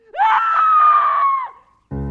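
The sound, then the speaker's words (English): A single loud, high-pitched scream rises sharply and holds steady for over a second before trailing off, followed by a brief pause and the abrupt start of another sound. “I must have slept in those dark hours because I was suddenly jolted awake to the sound of a scream.”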